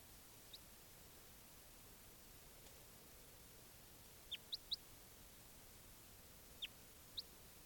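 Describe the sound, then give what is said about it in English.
Birds calling in short, high, thin chirps: a quick cluster of three, then two more later, plus one faint early note, all over a steady background hiss with no talking. “There's birds there.”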